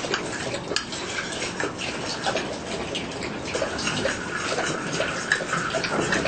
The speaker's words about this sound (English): 2 tablespoons of flour in 1 cup. There. And then some filtered water in the cup. Mix it up. Mix the water so that it becomes liquid.